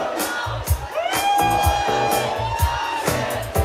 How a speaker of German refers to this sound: Und das ist der Live-Mitschnitt. Der ist ein ganz klein bisschen gemixt worden. Aber ich meine, du hörst ja das Publikum mitsingen. Also wo soll es her sein irgendwie? Die Frauen singen lauter.